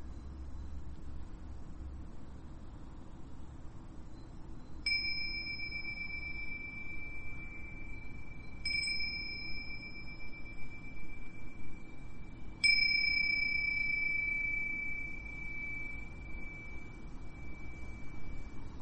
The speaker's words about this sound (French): Le son de la cloche